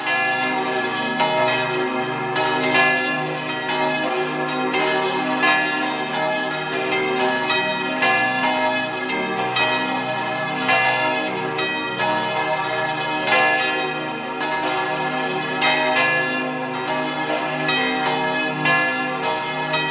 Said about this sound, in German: Es ist 12 Uhr. Sie hören die Glocken der Kirche zum heiligen Sebastian in Fontanella in Vorarlberg.